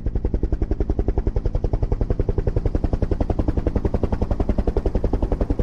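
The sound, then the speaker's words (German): Loud rotor noise from three helicopters flying low, just over the treetops of the Winkelschletterwald forest in glaring sunlight: a fast, steady thudding chop with a heavy low rumble that fills the whole stretch without letting up. No voices. “Alle drei Maschinen fliegen tief und somit knapp über den Wipfeln des Winkelschletterwaldes.”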